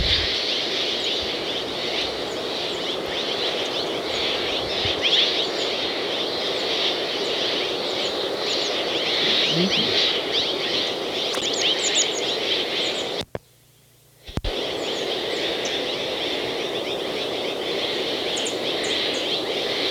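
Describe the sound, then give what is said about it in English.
A flock of Mexican jays, behind a group of bridled titmice, calls continuously, many overlapping short notes forming a steady bright chorus, broken by a brief second of silence near the end; no one speaks. “This is a flock of Mexican jays behind the bridal titmice.”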